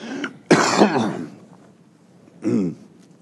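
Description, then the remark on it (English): A person coughs and clears their throat: a small rasp, then a loud, rough burst of coughing lasting about a second, followed by a shorter throat-clearing hack after a pause. “Now, pardon me a moment, I'm going to cough.”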